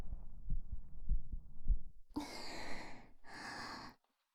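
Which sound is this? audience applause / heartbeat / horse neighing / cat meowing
heartbeat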